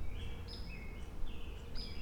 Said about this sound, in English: I see little tiny woodpeckers, the little flickers. There's two over there. I can hear them keeping.